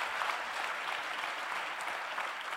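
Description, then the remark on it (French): Steady audience applause for the participants at the end of a round-table discussion, many hands clapping in a dense, even wash of sound that holds at a constant level throughout, with no voices standing out. “On peut effectivement vous applaudir chaleureusement.”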